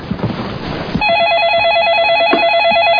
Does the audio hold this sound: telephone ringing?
yes